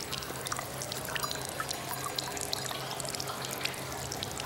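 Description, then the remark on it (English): A steady stream of urine trickles and splashes into a champagne glass placed at the feet of a man urinating at a urinal in a gents' toilet, continuous for the whole stretch, with a faint low hum underneath and no voices. “As Gangster urinates, some of the urine splashes into his champagne glass.”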